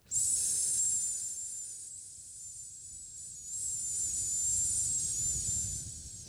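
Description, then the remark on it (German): A person makes a long, steady sibilant hiss, like a drawn-out "sss," close to the mic. It dips briefly in the middle, then swells again, with no talking. “Und wenn ich jetzt mal zische, dann seht ihr, wie das ganze Modul wirkt.”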